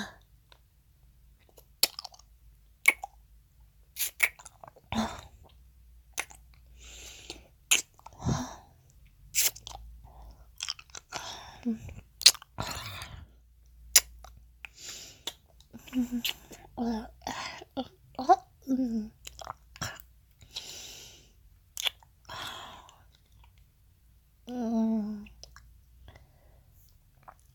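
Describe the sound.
Crunching and chewing on an ice cube, with repeated sharp, bright crackles and wet mouth sounds coming in irregular bursts, mixed with soft murmured voices and breathy vocal sounds.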